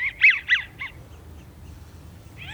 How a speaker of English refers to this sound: Those are some widgeons. Sound like squeak toys.